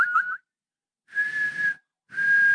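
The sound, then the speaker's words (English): Someone whistles: a quick wavering chirp, then two longer steady notes, each breathy and airy with plenty of rushing breath behind the tone, separated by short silences. “I can whistle, but I can't right now for some reason.”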